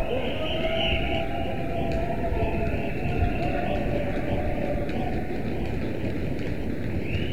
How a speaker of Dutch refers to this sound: We zijn nu in de hal van het stadhuis. Iedereen rent. Waarschijnlijk naar de raadzaal.